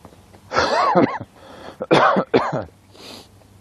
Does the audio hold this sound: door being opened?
no